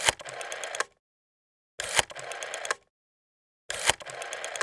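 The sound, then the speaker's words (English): A telephone rings in three repeated bursts of about a second each, separated by silent gaps, with a bright trilling bell tone that keeps going unanswered; the call is placed to a QuikTrip gas station. “Doesn't sound like anybody's going to answer the phone.”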